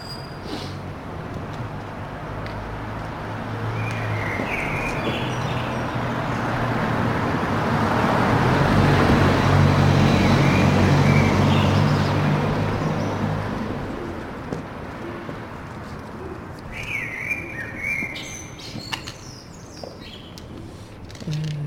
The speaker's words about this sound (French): Et j'enregistrais une demi-heure du carrefour. Le carrefour la nuit.